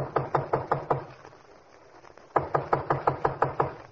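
Two bursts of firm, rhythmic knocking on a studio door in the snowy dark, about five quick raps, then a short pause, then a longer run of eight or so, loud, with no voices and no answer.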